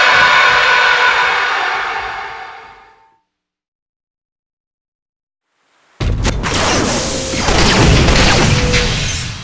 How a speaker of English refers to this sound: Its pitted steel hull glossy with rain, the dreadnought machine strode in through the shattered archway. The booming storm threw its hulking shadow 100 jagging directions at once with its lightning.